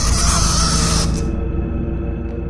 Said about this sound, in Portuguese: Era um ruído na escada, como se alguém estivesse arranhando os degraus, ou como se alguém estivesse arrastando uma cadeira levemente, uma cadeira de ferro, sobre os degraus.